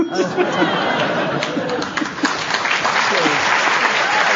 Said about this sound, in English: Yes, you deserve that round of applause